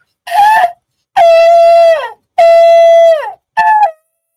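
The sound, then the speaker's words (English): A trumpet is blown to sound an alarm: four loud, brassy blasts, a short one, two long held notes that sag in pitch as they end, then a final short burst. No voices are heard. “So listen, we're going to blow the trumpet and sound the alarm.”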